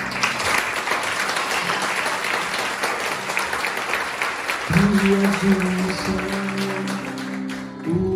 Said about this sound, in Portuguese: Honra, glória e louvor a ti, Senhor. E nosso melhor aplauso.